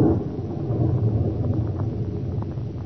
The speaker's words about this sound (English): Good heavens, that lightning must have hit quite near here.